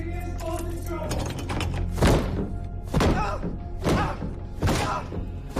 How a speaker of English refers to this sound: The parents go up the front steps. Corey kicks the attic door.